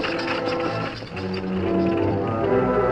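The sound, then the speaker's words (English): A horse-drawn freight wagon carrying two helpless men, driven by Cherokee, rolls out of town with a steady, fairly loud rattling and creaking clatter that continues throughout, without any voices. “Shortly after Cherokee left town, driving the freight wagon with the two helpless men on board”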